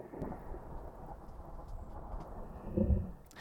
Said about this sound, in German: Das klingt erstmal noch nicht nach Gewitter, aber wenn wir das in unser Audiobearbeitungsprogramm ziehen und mit Geschwindigkeit und Tonhöhe runtergehen, dann bekommen wir ein Donnergrollen.